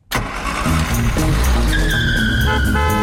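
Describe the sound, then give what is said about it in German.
A car roars loudly, its engine droning throughout, then tires break into a sustained high-pitched squeal that continues over the engine until the end. “So sind wir früher Auto gefahren.”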